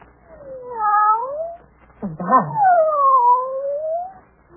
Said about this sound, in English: There's that cat again. It's coming through the door of the room.